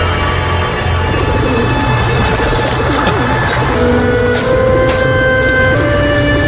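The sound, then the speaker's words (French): A pigeon coos in low, soft bursts beneath a steady wash of rain, with a few faint tones running through the background and no voices. “Il y a un des pigeons, il roucoule, êtes-vous là, je te le jure.”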